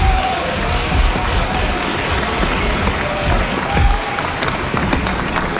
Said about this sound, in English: Voici nos premiers concurrents, on les applaudit bien fort.